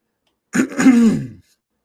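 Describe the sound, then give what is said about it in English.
A single loud throat clearing, a short rough burst followed by a longer gravelly rumble lasting under a second, with silence before and after. “Had to clear my throat.”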